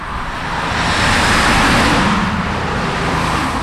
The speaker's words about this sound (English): Almshouse Road is a busy place during the afternoon rush hour as a steady stream of traffic speeds past St. John's Methodist Church.